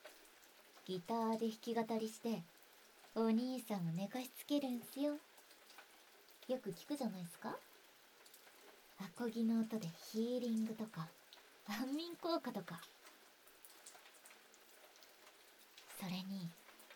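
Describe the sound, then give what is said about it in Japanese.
Steady rain patters softly outside, a constant hiss running through the whole stretch while a voice speaks in short phrases over it. “あー、外はまだ雨っすね。”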